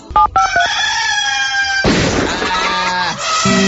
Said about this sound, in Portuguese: É hora de Galo cantar.